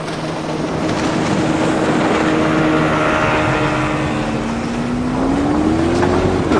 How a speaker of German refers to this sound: Hörst du's? Oh Mann, das klingt aber gar nicht gut. Ich hab den Motor erst letzte Woche durchchecken lassen.